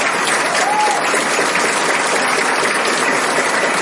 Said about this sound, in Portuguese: Então eu gostaria de uma salva de palmas para os nossos queridos líderes.